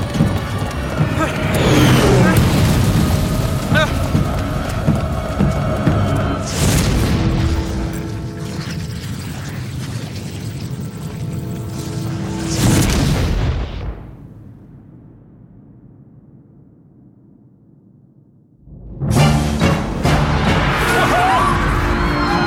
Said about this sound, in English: Oh, does that cloister bell thing ever stop? Sometimes, maybe every second Wednesday, if I'm lucky.